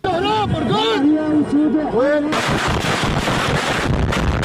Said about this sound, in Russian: Мощные взрывы раздаются в сирийском Алеппо, на шоссе рядом с университетской больницей.